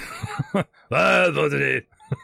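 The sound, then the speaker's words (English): A man's voice imitates a loud snore: one long, drawn-out groaning rumble after a few short grunting sounds, fairly loud, with a brief vocal sound at the end. “The merchant kobold gives him a gentle poke, and he just sort of turns over and starts snoring loudly.”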